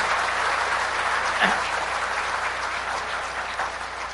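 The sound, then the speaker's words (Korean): An audience applauds steadily, a dense wash of many hands clapping at once that holds an even loudness for several seconds with no voices rising above it. “맞다면 박수 한번 쳐보세요.”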